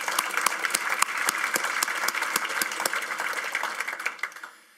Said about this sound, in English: And let's get a round of applause. That's an incredible accomplishment.